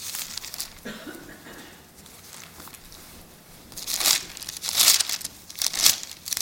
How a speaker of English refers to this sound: I love to turn into those pages. That's good music to a preacher when you're turning pages of your Bible.